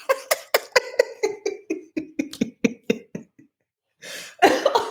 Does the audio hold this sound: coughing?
yes